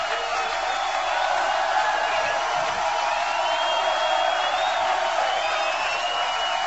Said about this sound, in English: Let's have some cheering! You want some more? I can't hear you!